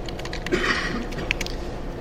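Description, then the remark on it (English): Scattered soft clicks of typing on a computer keyboard while writing code, irregular keystrokes over a couple of seconds, fairly quiet, with a steady background hiss underneath and no talking. “Because I don't want to keep typing things, I'm just going to set x equals 0.”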